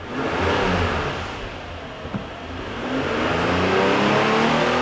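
A car engine revs in an auto mechanics training class shop, its pitch rising and falling in a steady mechanical roar that swells again toward the end, with no voices present.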